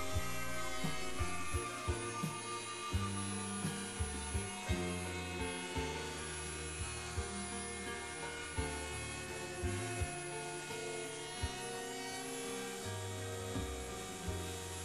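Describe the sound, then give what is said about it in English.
A wood router whines loudly and steadily, its high motor pitch wavering slightly as it rounds off the inside pattern of a board, with brief bumps and surges repeating every second or so; no one speaks. “If the plan allows, you can use a router to round off the inside pattern.”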